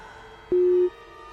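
A single steady, mid-pitched telephone busy tone on a call sounds loudly for about a third of a second over a faint hiss, then cuts off cleanly. No one speaks.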